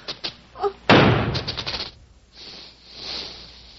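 impact, gunshot

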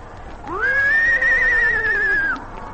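animal, horse neighing

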